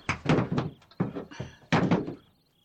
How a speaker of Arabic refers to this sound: كلا لا فائدة. إذن سأكسر الباب.